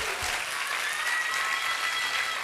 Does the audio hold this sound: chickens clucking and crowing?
no